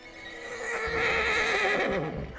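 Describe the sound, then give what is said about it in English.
A stallion whinnies loudly in a long, wavering neigh, while faint rhythmic hoofbeats patter underneath as it trots. No one speaks. “The horse locked eyes with Peggy. Then it turned and trotted down the lane.”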